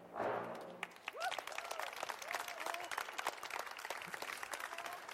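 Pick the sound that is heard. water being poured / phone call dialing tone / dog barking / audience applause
audience applause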